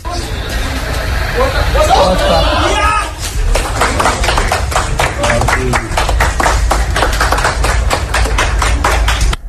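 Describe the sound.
A murmur of voices gives way to scattered, uneven clapping from a small group of office workers in an office in Japan, reacting to Japan's national team winning, continuing briefly over a steady background.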